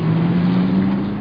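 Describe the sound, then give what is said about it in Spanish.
A car engine on a street rumbles steadily with a low, droning hum, holding a fairly even pitch throughout the brief moment, with no voices over it. “gente, los carros, algunos edificios, el semáforo.”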